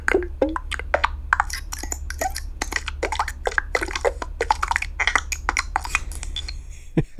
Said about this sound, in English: So typically what I do is I create a bunch of button sounds. These are would-be buttons for a Yahoo widget.